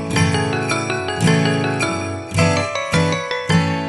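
Bells ring out in a steady run of bright, resonant strikes, each one chiming with a rich, sustained tone that overlaps the next. No voices are heard.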